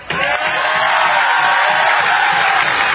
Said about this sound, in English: So Alex Ovechkin and Nicholas Backstrom actually rode the final bus down the mile-long parade route, lifting the cup to all the cheering and waving fans, a sea of red in the crowd.